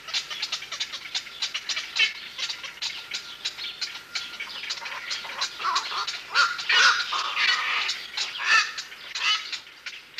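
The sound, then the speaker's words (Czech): A colony of black-crowned night herons, recorded at Malý Tisý pond nearly 30 years earlier, keeps up a dense chorus of harsh, croaking squawks, overlapping calls tumbling over one another, some sounding almost like clucking hens, growing busier and louder toward the end. “Celá kolonie se ozývá, jak už jste jistě postřehli, kvákavými skřeky, mnohdy nenepodobnými k dákání slepic.”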